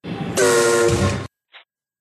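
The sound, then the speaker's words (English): A single loud, sustained whistle blast lasting about a second, bright and harmonic, blown as a cue to start recording a Tough as Nails promo audition in a booth, followed after a short silence by a brief faint blip. “Hold on here, and then I'll give you the whistle, and then you go, okay?”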